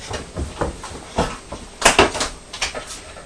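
fridge door being opened

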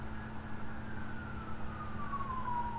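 fire engine siren passing

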